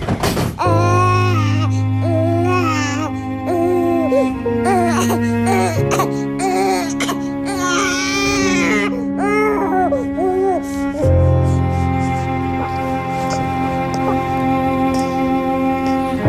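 newborn baby crying

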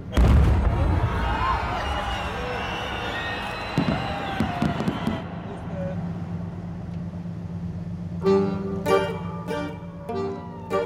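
fireworks exploding

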